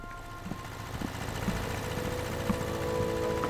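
A steady, low mechanical drone of a generator running in a dim back workroom of a store, with a constant hum and faint tonal whine and a few soft knocks, no voices.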